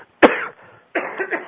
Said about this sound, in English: Sorry about that. Oh, that's okay. I've been there. Yeah. When I've been coughing for a couple of days here.